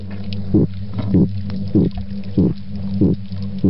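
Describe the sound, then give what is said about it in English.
Five brief, low grunts from a female midshipman fish, evenly spaced about half a second apart, each a short dull thump sounding over a steady low droning hum. “Females make a sound known as a grunt. It's very brief.”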